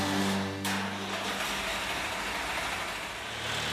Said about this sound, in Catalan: Aguantant-me la pixera, baixo cap al garatge, engego el tractor i m'avio cap al mar.